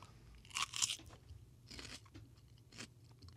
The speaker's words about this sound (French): Il va à tâtons et il va croquer dans la patate.